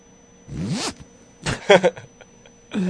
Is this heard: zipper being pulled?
yes